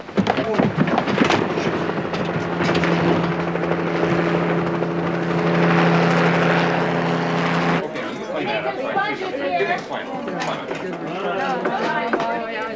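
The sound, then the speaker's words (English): Helicopters bringing in more wounded drone with a steady, loud rotor thrum and engine hum that swells slightly, then cuts off abruptly as voices carry on talking over the background. “Choppers, more wounded.”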